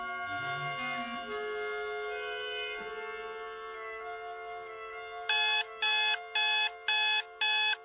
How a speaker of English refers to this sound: Forgot to turn the blasted alarm off.